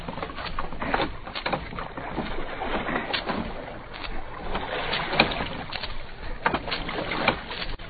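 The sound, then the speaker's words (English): Oars dip and splash repeatedly as a rowboat moves through water, with steady watery sloshing between the uneven strokes. Moderately loud, slightly muffled, with no one speaking. “Take the oar, Jones.”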